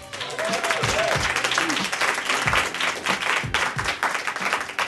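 A crowd applauds steadily for about five seconds, a dense, loud wash of many hands clapping, with scattered whoops and voices rising underneath.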